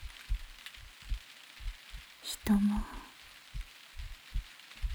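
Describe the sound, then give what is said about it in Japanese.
Soft, steady rain hisses in the background with scattered low patters. A short burst of louder splashing or crackle comes midway, and a voice speaks briefly and quietly. “雨降ってるわね”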